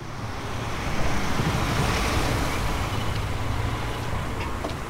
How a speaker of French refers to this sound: Une rue de Bruxelles, un vendredi matin. 7h30. Une voiture grise s'arrête devant le collège Les Tournesols.